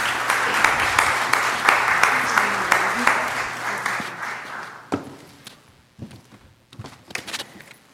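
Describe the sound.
A church audience applauds steadily for about five seconds for a young adult speaker being introduced, a dense wash of many hands clapping, then it stops abruptly, leaving a few scattered thumps and shuffles before a voice begins.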